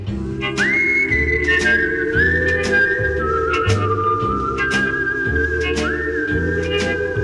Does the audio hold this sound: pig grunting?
no